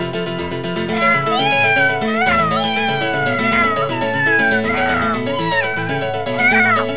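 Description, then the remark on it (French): Someone imitates a cat, letting out a series of drawn-out, wavering meows one after another, fairly loud over a steady, droning tonal background. “Quelqu'un qui miaule.”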